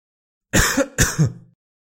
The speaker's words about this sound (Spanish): Creo que lo más fácil para que entiendas qué es la tos es que yo tosa. Toser es esto.